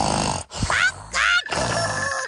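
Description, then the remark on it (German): A person loudly imitates snoring with a few rough, rattling snorts and grunting breaths in quick succession, with no other sounds around them. “Und ich kann auch ganz laut schnarchen.”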